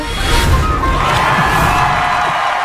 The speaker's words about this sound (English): They have no idea at this point, but the crowd is really excited, if you could tell. The crowd liked it.